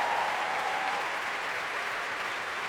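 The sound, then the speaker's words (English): Sustained audience applause at the Proms for the brass section (saxophones, trumpets, trombones), a dense, even wash of many hands clapping steadily from a large crowd, with no voices standing out. “Applause for the brass there, the saxophones, trumpets on their feet.”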